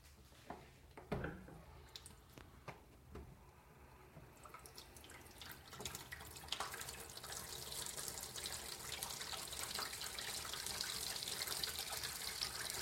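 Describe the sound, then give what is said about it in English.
A few soft clunks and drips, then a tap opens and water runs steadily into a sink for washing dishes, the rushing hiss growing fuller and a little louder as it continues, with no talking. “So use the sound in itself as a meditation, the sound of running water.”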